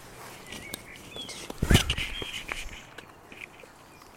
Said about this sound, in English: It's very nice, and when we just arrived, there were many birds singing. There is a blackbird.